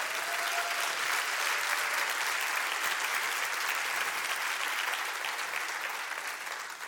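A crowd applauds steadily for about seven seconds, a dense, even wash of many hands clapping that holds strong before easing slightly at the end. No one speaks.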